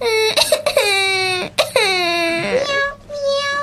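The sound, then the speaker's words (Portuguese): A young girl stuck up a tree with a cat cries loudly, with long, drawn-out wailing sobs broken by a few short gasping breaths, and no talking. “Até que por ali passou o marido da Senhora Francisca, que ouviu os miados do gato e o choro da filha e percebeu que precisava de ajudar.”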